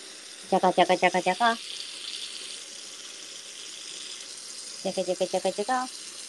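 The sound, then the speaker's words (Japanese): Water runs steadily from a tap into a container, filling it with water to be chilled overnight, a continuous hiss, broken twice by short bursts of rapid, pulsing tonal sounds. “ごめんね、ちょっとうるさいね。ちょっとね、夜間冷やすためのお水をね、入れております。”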